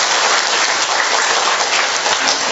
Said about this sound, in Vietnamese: Rồi xin chúc mừng tất cả những người làm mẹ một tràng pháo tay thật lớn nữa, thưa anh chị em.